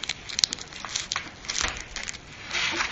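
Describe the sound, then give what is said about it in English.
Continuous crinkling and rustling of paper sheets being shuffled and handled as they are shown one by one for someone to choose from, with sharp crackly bursts and a few louder snaps, no voices present. “I'll show you the paper. You tell me which one you like. You tell me when to stop.”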